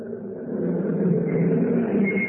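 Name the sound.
car engine driving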